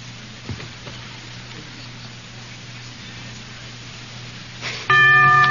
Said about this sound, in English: The bell is tolled.